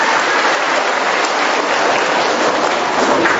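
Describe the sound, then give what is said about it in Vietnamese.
A crowd applauds steadily, a dense, loud wash of clapping that holds at an even level for a few seconds with no voices over it. “Cho một tràng pháo tay đi thưa anh chị em.”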